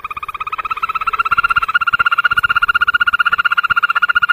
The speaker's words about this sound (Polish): Nawet mi się zdarzyło kiedyś, że ktoś mnie pytał, że panie, co ja mam w stawie, bo mi wieczorem po prostu jakiś ptak ze stawu śpiewa. Ja mówię, no to ropucha. No jak ropucha? No ropucha. Oto przedpremierowe wykonanie śpiewu godowego ropuchy zielonej.